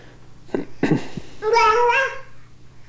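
A single drawn-out cat meow, clear, follows a few short, soft vocal sounds, with a quiet low hum underneath.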